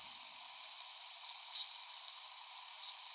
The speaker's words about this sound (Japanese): 炭酸音の気持ちよさ、存分に味わってくださいませ。